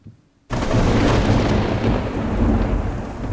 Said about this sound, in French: Ah, le voilà. Tu entends, Igor? Oui, maître. L'orage arrive.